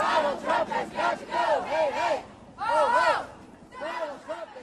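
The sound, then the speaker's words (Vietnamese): A crowd of protesters gathered along the route of the President's motorcade to Congress, expressing their discontent on the day of his national address, shouts in rhythmic, chant-like bursts, the massed voices rising and falling in loud repeated phrases with brief pauses between them. “có những đám đông tụ tập dọc theo lộ trình của đoàn xe chở Tổng thống đến Quốc hội để bày tỏ sự bất mãn của họ.”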